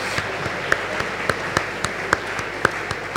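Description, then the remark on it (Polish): An audience applauds steadily for the top ten dioceses by number of participants, a dense wash of many hands clapping with a few sharper individual claps standing out, moderately loud and without any voices over it. “To pierwsza dziesiątka, no dla nich brawo, dla tych pierwszej dziesiątki.”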